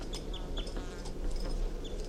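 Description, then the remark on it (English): A captive crossbill, bird 251, gives a series of short, high chirping calls at irregular intervals, with one slightly longer whistled note, over a steady low rumbling background noise. “And bird 251 is vocalizing.”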